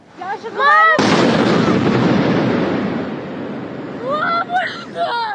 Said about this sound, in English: Ukraine appears to be taking the fight to inside Russia after explosions erupted from a drone strike in Moscow.